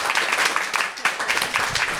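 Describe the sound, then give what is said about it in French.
An audience applauds with dense, steady clapping that fills the whole moment, many hands at once, moderately loud, with no pause or voice standing out, welcoming the mayor of the commune of Roc, Monsieur Mabir, at an Octobre Rose prevention event. “On peut l'applaudir bien fort s'il vous plaît.”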